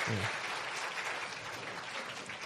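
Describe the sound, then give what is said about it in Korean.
An audience claps steadily to congratulate graduates bowing to them at a Bible graduate school graduation ceremony in a church, a dense, even wash of many hands with no single claps standing out; a brief low murmur comes at the very start. “네, 졸업자분들께서 성도님께 인사하실 때 성도님들은 가장 뜨거운 박수로 축하해 주시기 바랍니다.”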